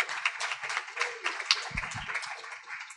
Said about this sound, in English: So if we could give a round of applause for that, that's a huge breakthrough there.